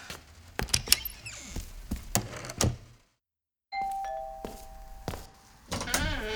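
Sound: doorbell ringing repeatedly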